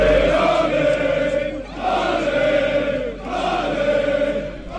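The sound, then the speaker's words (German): Swiss football fans in a stadium cheer and chant, celebrating Switzerland's win over Hungary, in three loud, sustained waves, each swelling and then dipping briefly before rising again, with a dense roar of many voices throughout. “Die Schweizer Fans am Jubeln und am Festen.”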